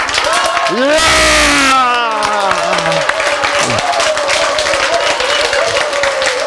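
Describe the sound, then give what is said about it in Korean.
An audience claps loudly in a fast, dense barrage, marine corps style, while a burst of shouted, rising voices rings out over the first few seconds before the clapping carries on alone. “그래서 여러분이 방금 치신 그 박수가 최고의 박수야. 그걸 이거를 해병대 박수라고 합니다.”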